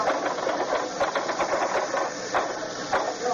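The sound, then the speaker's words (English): Rapid, continuous clatter of typewriter keys striking in a dense mechanical rhythm, with a few sharper, louder hits standing out, steady throughout and without voices. “Finish typing that banquet story yet?”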